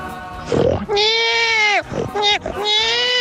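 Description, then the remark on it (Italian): A pig named Aaron grunts and squeals in a few drawn-out, wavering calls as a greeting, loud, with short breathy pauses between them and no talking over them. “Aspetta, sì, che c'è un saluto di Aaron, il maiale felice che è venerdì.”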